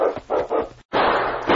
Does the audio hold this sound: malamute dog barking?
yes